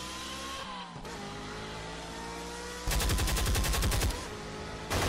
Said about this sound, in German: Die schießen auf uns! Verdammt, sie erwischen unsere Ware, Mann!